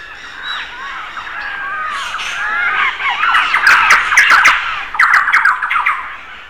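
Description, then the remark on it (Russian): A pet parrot screams and squawks continuously, harsh overlapping cries growing louder and denser toward the end, loud, with no talking. “Поэтому, когда у вас домашний попугай начинает кричать, то здесь необходимо отдифференцировать, а что за причина вот этих всех криков и что можно сделать по этому поводу.”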